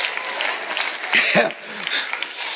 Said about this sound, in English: Yeah, I'm preaching. I'm going to let it fly too. Thanks for cheering me on.